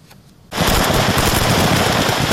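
After a brief quiet moment, a loud, dense exchange of gunfire between Ukrainian and Russian forces near Kyiv erupts, with rapid overlapping shots crackling continuously in sharp bursts, with no voices.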